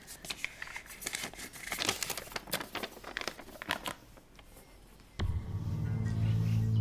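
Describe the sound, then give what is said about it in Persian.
A paper letter is unfolded and crinkled to be read, with irregular crackling rustles for about five seconds before a steady low drone swells in. No one speaks. “کاغذ رو بخونم.”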